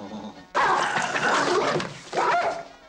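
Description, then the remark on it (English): A small, scruffy terrier in a reception area snarls and yips loudly in two sharp, sustained outbursts, a brief pause between them, with no one speaking. “He then stops before a small, scruffy terrier dog.”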